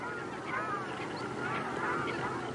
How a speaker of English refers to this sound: Like this one. It's the sound of the ruddy shell duck. Very rare in Europe in the wild. But here, there are thousands.